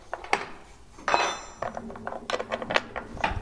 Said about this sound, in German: Orgelbauer Andreas Lange öffnet einen Holzkasten.